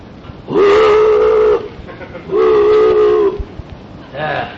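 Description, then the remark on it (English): A low, mournful boat whistle blows two long, steady blasts with a brief pause between, then a shorter third blast, sounding fairly loud and hollow against a faint background hiss, sounding somewhere out in dense fog. “Somewhere out in that pea soup, a mournful boat whistle sounded.”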